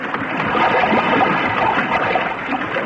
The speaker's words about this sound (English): Jack Armstrong is going down into that sinking submarine. The dark Atlantic waves are lapping hungrily at her deck.